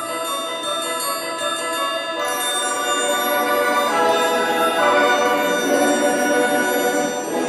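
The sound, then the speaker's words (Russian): A bright, silvery bell chime rings steadily, its high shimmering tones layering and sustaining throughout, fairly loud with no speech. “Раздался звон серебряный.”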